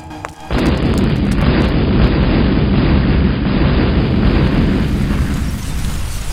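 A time bomb explodes after the blue wire is cut and its timer does not stop: a sudden, heavy blast, then a loud, deep rumbling roar that holds steady for several seconds before fading slightly. No voices are heard.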